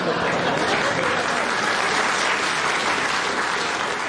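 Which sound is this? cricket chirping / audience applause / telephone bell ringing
audience applause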